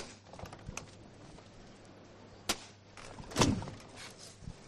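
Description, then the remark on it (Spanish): Three sharp knocks of the foreman's hammer signalling his bearers to lift the palio float of the Hermandad de Veracruz in the Plaza de la Campana ring out one after another, the middle one loudest, over a low steady hum, with a few faint ticks before them. No one speaks. “Ahora el capataz que avisa a sus hombres, suena de nuevo el martillo.”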